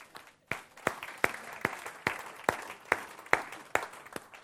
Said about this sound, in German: Und wir wollen ihnen einen ganz besonderen Applaus geben.